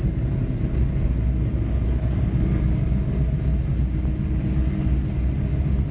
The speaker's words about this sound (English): Here comes that train I talked about. Wait till it goes by. It can get real loud sometimes.